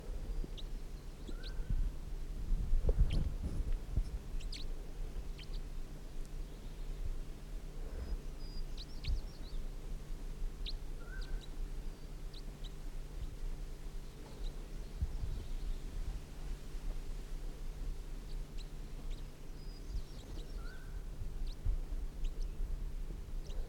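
Faint, scattered high chitters from small decoy birds: short, thin chirps popping up irregularly over a steady low hum, with no voices present.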